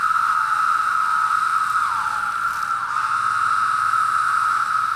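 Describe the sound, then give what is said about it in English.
A dense chorus of periodical cicadas of Wisconsin's brood in Lake Geneva, Wisconsin, fills every second with a loud, unbroken droning whine, holding one steady mid-high pitch with slight wavering swells and no voices. “I found these periodical cicadas to be weirdly relatable.”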